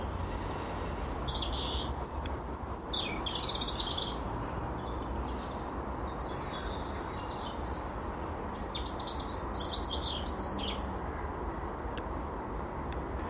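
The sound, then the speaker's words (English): Several birds chirp and trill intermittently on a slightly breezy morning outdoors, their calls scattered over a steady, low rumble of road noise, with no one speaking. “As is the bird sound, of course, which is always great.”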